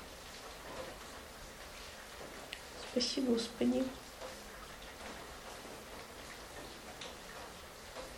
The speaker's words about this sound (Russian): Какой прекрасный дождик за окном. Нескончаемый. В 9 написано, должен закончиться.